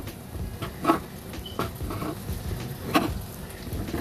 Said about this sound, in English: You hear I'm chopping up my turkey bacon right now. While that's going, that's done chopping.